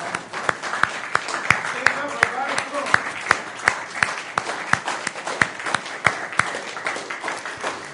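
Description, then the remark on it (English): An audience applauds steadily for a couple called up front to celebrate a graduation from Delta Company, a dense wash of clapping with individual sharp claps standing out in a quick, fairly regular pattern, holding at a moderate level throughout. “Would you give them a great big round of applause?”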